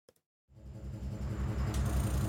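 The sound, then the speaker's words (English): A couple of faint clicks, then an airport bus engine rumbles to life, loud, with an uneven, sputtering low throb that grows steadily rougher. “What's that noise? No idea, but it doesn't sound very good. There must be a problem with the engine.”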